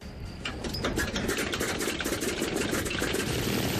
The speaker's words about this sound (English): Since 1929, the Salis aircraft collection at the La Ferté-Ali airfield, about 40 kilometers south of Paris, has been a place where old planes, like this Boeing Stearman PT-17, are restored to flying condition.